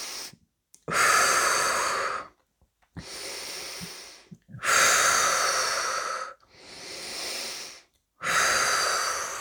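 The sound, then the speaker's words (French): Several slow, deep breaths, each a long airy inhale or exhale of a couple of seconds with brief pauses between, fairly loud with no talking. “Nous prenons quelques grandes inspirations.”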